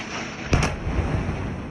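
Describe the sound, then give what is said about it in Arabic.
Two sharp explosive blasts in quick succession during the war in the Gaza Strip, followed by a low rumbling tail that fades into a steady background hiss. No voices are heard. “1000 يوم مضى على الحرب في قطاع غزة، وعلى صوت الانفجارات التي لا تهدأ والطائرات الحربية”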